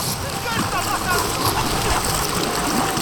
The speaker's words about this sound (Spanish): Has abierto la compuerta para desviar el río hacia nosotros.